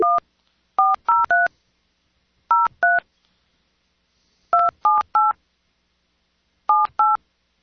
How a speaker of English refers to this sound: Wonder if I can dial this phone number.